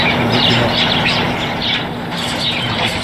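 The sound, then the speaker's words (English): Birds chirp repeatedly in quick bursts in a video being played, over a loud, steady rumbling background with a constant low hum. No one speaks. “The birds? Yeah, the birds was weird.”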